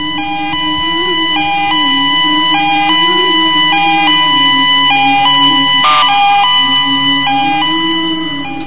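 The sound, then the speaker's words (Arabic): An ambulance siren: a loud two-tone emergency siren alternates steadily between a high and a low pitch, continuous throughout, with a low rumble underneath and no voices. “دق دق اسعاف يا اخي، دق اسعاف.”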